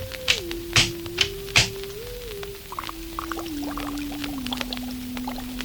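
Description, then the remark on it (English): A sci-fi oscillator machine, a Thrall Globule Oscillator operating at microwave frequencies, hums with a steady electronic tone that steps gradually downward in pitch, joined early by a few sharp zapping bursts and then bubbly, crackling clicks throughout. “What you are hearing at this moment is a Thrall Globule Oscillator operating at microwave frequencies of astronomical proportions.”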